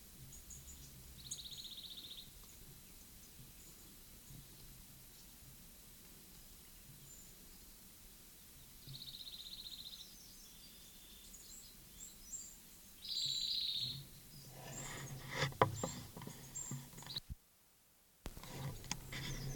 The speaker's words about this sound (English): This is Closer Singer, the bird that I've been recording for an hour.